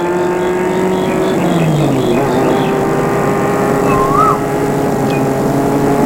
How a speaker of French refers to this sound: Elle est de plus en plus étroite. La voiture touche les feuilles d'arbres. Feuilles immenses.